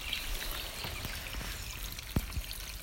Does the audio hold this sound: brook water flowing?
yes